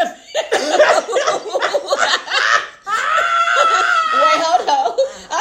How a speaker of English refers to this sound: I was trying to hold my cough from recording, but it came up.